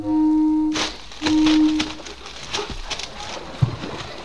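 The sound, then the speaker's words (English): A boat out on the ocean sounds its warning horn at two men in a rowboat ahead, two long, low, steady blasts, the second a bit shorter, followed by a rough, noisy clatter with a brief thump near the end. “I'll give them the warning signal.”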